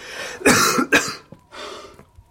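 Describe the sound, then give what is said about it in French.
A harsh, strained, choking coughing fit: two loud, rasping hacks in quick succession, then a weaker, breathy third cough, with a choked, wheezy quality and no talking. “Vous m'avez fait tant de mal que je vais veiller toute la nuit. En m'étranglant avec cette toux.”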